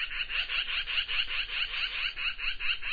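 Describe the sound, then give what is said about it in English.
A magpie calls in winter, a harsh, rapid chatter, a steady run of raspy, high-pitched notes repeating for several seconds with no voices present. “There's sounds that I only hear in the winter, like this magpie.”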